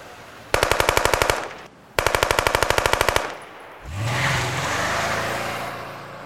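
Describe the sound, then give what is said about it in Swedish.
Two rapid bursts of automatic weapon fire crackle in quick succession, each a dense string of sharp shots, at a shooting around 8 on a summer evening outside the Galaxy in central Malmö, followed by the engine of a grey Saab 9-5 revving and accelerating away. “Det är ju ett automatvapen som används, och då blir det ju många skott på kort tid.”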